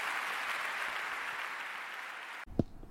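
Steady, dense audience applause fills about two and a half seconds, a broad crackling wash of many hands, then cuts off abruptly into a few faint clicks and a brief voice.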